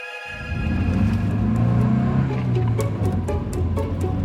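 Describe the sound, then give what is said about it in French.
A car engine hums steadily as the vehicle drives at night along the left bank of the Seine, past the Gare d'Orsay, in April 1969, its low rumble rising and dipping slightly in pitch, fairly loud, with occasional faint clicks over the road noise. “Dans la nuit du 29 avril 1969, au lendemain du non au référendum qui provoque la démission du général de Gaulle, cette voiture longe la rive gauche de la Seine, passe devant la gare d'Orsay qui n'est pas encore un musée,”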